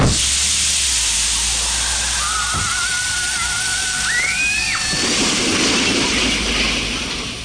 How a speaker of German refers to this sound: So ein Mist, der Reifen ist kaputt.